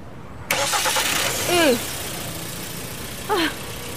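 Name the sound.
car engine starting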